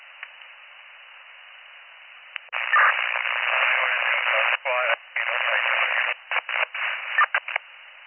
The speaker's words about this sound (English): I'm sorry, your radio is all static.